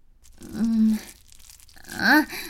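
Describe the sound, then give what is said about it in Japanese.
Two wet, noisy sucking bursts as someone sucks on a woman's breast, each about half a second, the second louder and rising in pitch with a squeaky, slurping edge, separated by a brief quieter gap. “音立てて吸ってる。”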